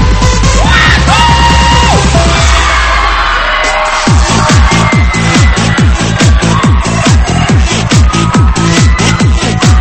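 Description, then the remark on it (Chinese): Crowd screams, yells and whoops rise over rising synth tones, then give way to a loud, steady thumping dance beat that pulses evenly to the end. “带上你的好朋友一起加入进来，来点尖叫声鼓励一下。”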